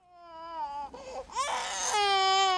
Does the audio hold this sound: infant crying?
yes